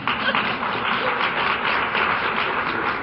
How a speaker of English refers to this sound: And we will begin with our first presenter, and I'd ask that you give yourself and the presenters a round of applause for being here.